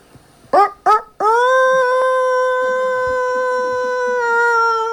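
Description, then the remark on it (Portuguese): A person imitates a rooster crowing: two short clipped syllables, then one long, loud, sustained cry at a steady high pitch that holds for several seconds before easing off. “E o tucano, que na verdade era o galo, fez o quê?”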